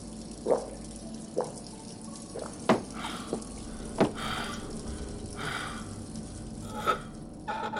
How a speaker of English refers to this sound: He grabbed a clean glass, filled it, and drank half in one go.